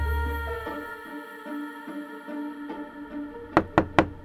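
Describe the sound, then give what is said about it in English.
Three sharp, loud knocks on a door in quick succession near the end, following a soft, sustained musical background with no talking. “I can't open the door right now, Cyrus.”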